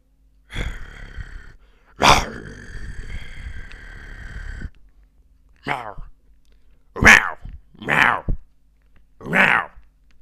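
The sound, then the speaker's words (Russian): A person imitates a small kitten with their voice: first a long, strained, breathy cry, then four short, high mewing squeaks spaced out after a pause, fairly loud and slightly hoarse. “Это типа маленький котенок, только раньше, конечно, лучше получалось, но голос сел, что поделаешь, уже нормально не получается.”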